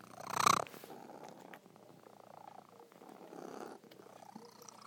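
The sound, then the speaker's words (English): A cat purrs steadily, a soft rhythmic rumble that swells and eases with each breath, after a brief loud rustling bump at the start. “You simple little cat you are.”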